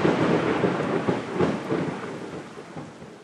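A May thunderstorm, the first of the season, with a sustained low rumble of thunder rolling on and off, loud at first, then slowly fading, with a steady wash of rain hissing underneath and no voices.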